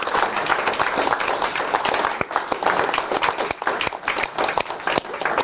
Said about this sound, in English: I'd like to also, if we could maybe thank our facilitators here, give an applause